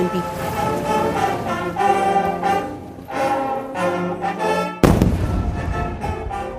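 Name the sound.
cannon shots fired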